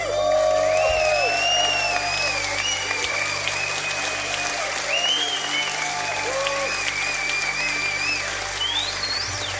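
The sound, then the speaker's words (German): A concert crowd applauds and cheers loudly and continuously as the rest of the band comes onto the stage after the first solo, a dense wash of clapping with whoops and shouts rising above it throughout. “aber bevor die kommen, also nach dem ersten Solo und bevor diese Töne kommen, kommt der Rest der Band auf die Bühne und das wird vom Publikum meistens frenetisch gefeiert.”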